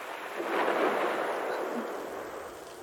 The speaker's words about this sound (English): Did you hear that one? That was a big crack of thunder.